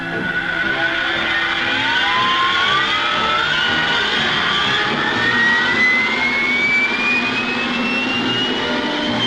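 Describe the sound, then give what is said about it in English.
All four jet engines of a Vulcan V-bomber, started together by one starter during an alarm scramble, run in a loud, steady roar, with a high whine climbing slowly in pitch as they spool up. No one speaks. “It gets all four engines running together, not one after another as in the old way.”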